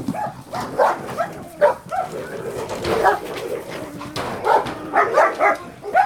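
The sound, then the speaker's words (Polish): A dog barks aggressively, a rapid run of harsh, snarling barks that come in irregular bursts and keep going throughout. “Czy ten pies od początku był taki agresywny?”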